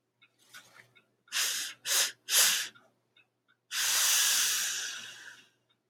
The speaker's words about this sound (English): I'm just going to take a quick sniff, okay?